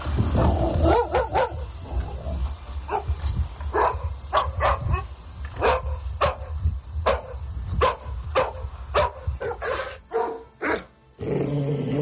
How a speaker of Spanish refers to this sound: Pero a todos les enseñamos que hay cosas que no se hacen. Como, por ejemplo, estar ladrando todo el día.